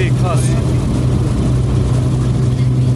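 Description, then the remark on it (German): A small plane's engine roars loudly and steadily, a continuous deep droning hum with no breaks, as the plane aborts its landing and goes around over the Okavango Delta. “Wow, zum allerersten Mal in meinem Leben durchgestartet, das hier mitten im Okavango-Delta.”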